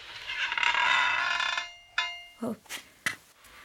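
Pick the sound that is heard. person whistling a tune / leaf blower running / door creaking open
door creaking open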